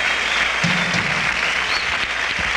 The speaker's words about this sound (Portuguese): Aí o tecladista sendo super aplaudido pela massa.